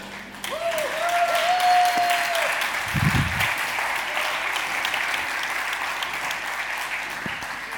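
A church audience applauds the band after the sermon. It is a dense, steady wash of clapping that holds at an even level for several seconds, with a faint whistle-like tone briefly rising above it early on.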